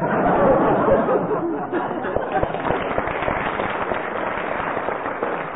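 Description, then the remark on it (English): An audience breaks into a round of applause, a dense crackle of many hands clapping that starts strongest and settles into a steady patter for several seconds. “Having elicited a round of applause, you get a mark”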